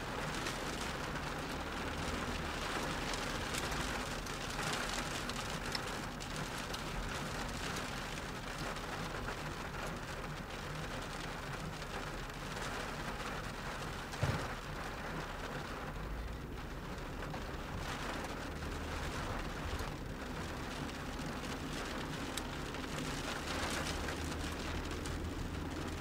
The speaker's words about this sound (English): I imagine the sound of rain is something that we've all heard before. No point just playing rain, not having any other commentary. This actually is a recording I made about a month ago